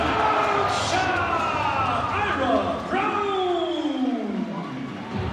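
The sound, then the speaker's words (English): Shibuya Sunrockers forward Ira Brown slams a dunk over several players at a home basketball game in Tokyo, Japan, amid a loud, continuous crowd roar, with excited voices rising and falling in sweeping shouts and cheers throughout. “Brown just dunked over the heads of a whole bunch of other players.”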